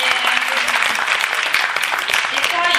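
An audience claps steadily, a dense, continuous wash of many hands that stays loud and even throughout, with no individual claps standing out.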